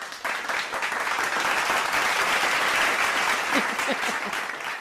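A burst of applause with many hands clapping in a dense, steady patter, fairly close and loud, sustained for several seconds before tapering slightly at the end.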